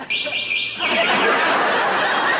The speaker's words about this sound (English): There are the birds! It won't be long now!